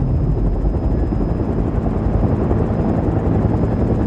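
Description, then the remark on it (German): A helicopter's engine and rotor drone steadily and loudly throughout, a dense low-frequency roar with a faint rhythmic chop and a thin high whine on top, no voices present; the helicopter waits on the roof of the police headquarters. “Miller wartete auf mich auf dem Dach des Polizeipräsidiums in seinem Hubschrauber.”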